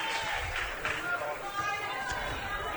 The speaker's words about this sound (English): Mia Whipke going to get a nice round of applause as she checks out.